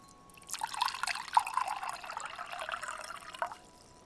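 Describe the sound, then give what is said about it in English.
Spring water is poured as an offering to Mother Danae in a steady, splashing trickle for about three seconds, with a few brighter drips along the way, then stops; moderately quiet, with no voices. “Mother Danae, your servant presents an offer of spring water.”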